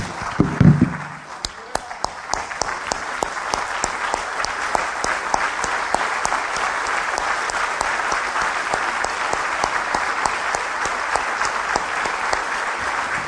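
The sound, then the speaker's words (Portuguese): A standing audience breaks into sustained applause for the Lord Jesus before taking communion, many hands clapping densely and steadily for over ten seconds, with faint voices near the start. “O rei a gente aplaude em pé.”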